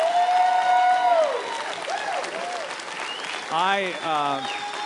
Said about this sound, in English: I greatly appreciate that. My wife really should be here to receive that applause, more so than me. I mean, she's the one that had to live with me for 40 years.